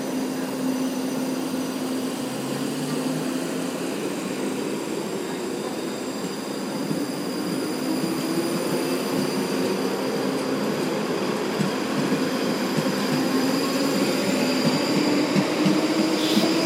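A train rumbles steadily at Charing Cross railway station just after 8 a.m., its electric motor whine slowly rising in pitch over a continuous wash of rail noise, with faint high-pitched squeals and no voices.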